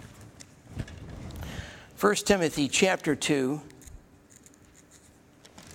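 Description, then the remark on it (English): Soft, papery rustling of book pages being turned to 1 Timothy chapter 2, fairly quiet, followed by a man speaking briefly before the rustle fades into a quiet pause. “Excuse me if I slow down a little bit here, but these fingers don't like turning pages.”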